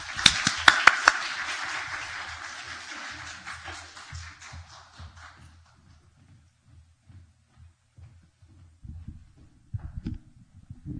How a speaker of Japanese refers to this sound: それじゃあ、拍手を持ってお迎えください。